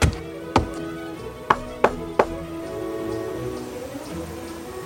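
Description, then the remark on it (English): A man knocks on the door of a little house in the frontier town of Pierre, Dakota Territory: a single rap, then three quick, sharp knocks, over a soft, steady musical hum. “A man walked briskly up the steps of a little house in the frontier town of Pierre in the Dakota Territory and rapped on the door.”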